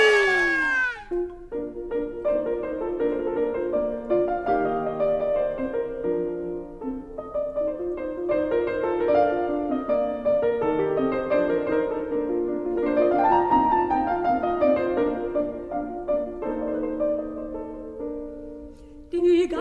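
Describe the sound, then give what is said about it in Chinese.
A graceful classical instrumental piece by Haydn, "The Clever Poodle", likely played on strings, with smooth sustained melodic lines, a few sliding, almost meow-like notes and a steady, moderate volume throughout, with no voices. “现在大家听到的这首音乐啊，就是海顿爸爸的《聪明的贵宾狗》 哦，《聪明的贵宾狗》。”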